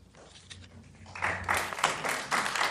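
An audience at a public hearing before the mayor and commissioners claps after testimony against a couplet and streetcar proposal, starting as a faint scattered patter and swelling after about a second into a dense, steady round of applause that carries on to the end.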